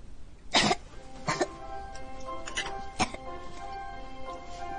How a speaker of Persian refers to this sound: بله از امروز صبح داره سرفه میکنه، بهش دارو دادم.